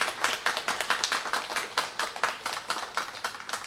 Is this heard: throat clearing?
no